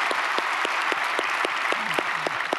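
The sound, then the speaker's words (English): A church audience applauds to welcome one another, including people joining online from other locations, a dense wash of many hands clapping at a constant loudness, with a few sharper individual claps standing out at a regular beat and a brief faint voice underneath. “And so by applause, would you welcome each other as we are one church in a variety of locations.”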